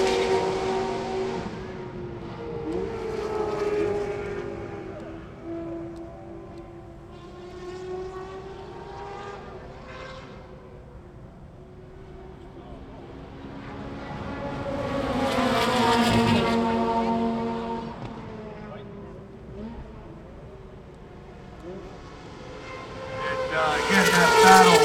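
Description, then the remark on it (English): Several race car engines whine past in waves on a track as the cars go through turns one and two, swapping positions; pitch rises and falls as they approach and recede, with a loud pass near the middle and another building at the end. “And lay back into turn one, swapping positions as they go through turn two.”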